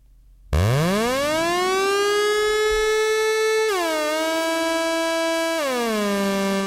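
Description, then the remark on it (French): An ARP Odyssey analog synthesizer, released in 1972, imitating a fire brigade siren: a buzzy, harmonically rich tone swoops upward, holds a loud steady pitch, then slides down in two steps, with no one talking. “C'est l'alarme des pompiers, ça.”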